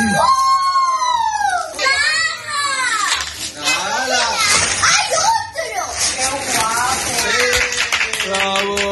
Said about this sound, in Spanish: lo que ya se está produciendo en muchos hogares españoles es una sucesión de carreras por el pasillo, de gritos, de nervios, de risas y, sobre todo, de felicidad.